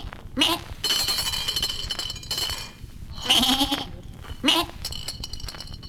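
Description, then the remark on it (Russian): A ram bleats three times, fairly loud, with quavering calls spaced a few seconds apart over a steady rustling, faintly jingling background. “Не тужи, дам тебе баранчик.”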